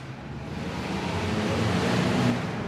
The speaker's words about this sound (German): Der Escherwiesplatz, das ist das Eingangstor zum Trendquartier Zürich-West. Oben auf der Hartbrücke braust der Verkehr, rundherum kreisen Autos und Lastwagen, Trams queren den Platz.